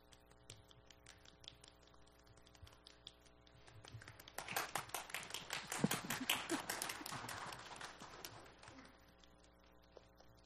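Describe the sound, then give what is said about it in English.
An audience claps with one finger each to imitate rain: scattered light finger taps build into a dense, pattering wash like falling rain, peaking in the middle before thinning back out to a few sparse taps. “So we're going to start by clapping just one finger. And you guys, if you do the same thing as me, it might sound cool.”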